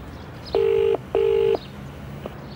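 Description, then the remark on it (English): A telephone being dialed to call an animal shelter: two steady electronic tones, each lasting under half a second with a short gap between, loud and clear over a quiet background hum. “We must phone the shelter and ask for their help. Call them”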